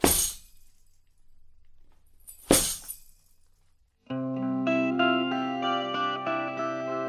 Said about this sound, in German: Und den kann man, wenn man die ganze Kiste nimmt und die so auf den Boden knallt, dann macht es halt so. Und das waren dann quasi die Ketten. Rasselketten. Auf der linken Seite, nach dem Bär, kann man die hören. Kommen, glaube ich, zweimal.